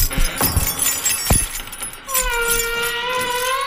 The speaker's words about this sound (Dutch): Hebben we die sleutel? Ja, die heb ik. Ja, ik pak hem ervan. Ik zal die deur even openen.